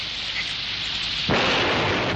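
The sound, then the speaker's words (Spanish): A steady hiss of rain gives way about halfway through to a sudden loud thunderclap from a lightning storm in the mountains that swells into a sustained roaring rumble. No one speaks. “En estas montañitas debe caer cada rayo de museo.”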